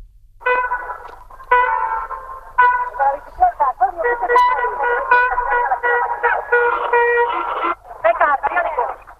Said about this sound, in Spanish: Esto que están escuchando es la primera película sonora del cine español. Se titula El misterio de la Puerta del Sol. Y aquí lo que cuentan un poco, lo que se puede escuchar, Nuria, es el caos precisamente del tráfico, esto que nos estabas contando.